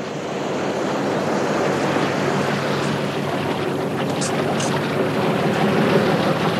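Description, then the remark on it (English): A boat cutting across open ocean water, heard as a steady, loud rush of churning spray and wind with a low continuous rumble underneath, unbroken throughout and with no voices. “We can take this boat.”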